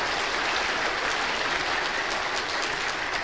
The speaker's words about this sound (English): But these guys, can we clap for just and affirm these young people?